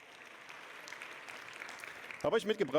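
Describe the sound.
Soft audience applause for a camera being brought over for an experiment, a steady patter of many hands clapping for about two seconds, before a voice starts talking over the tail end.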